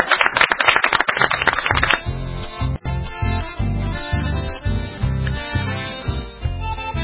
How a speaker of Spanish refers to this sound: Bueno, un aplauso para ustedes.